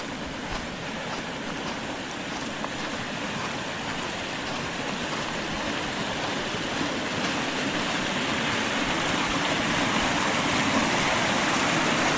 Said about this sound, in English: We'll go down by the creek. The creek is freezing over.